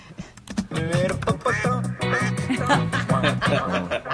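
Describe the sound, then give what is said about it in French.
A rapid, continuous run of nasal duck quacks, heavily compressed and washed in reverb so the calls blur into a loud, dense stream with no pauses. “Alors là, je vais produire le canard, je vais lui mettre un petit compresseur, une reverb.”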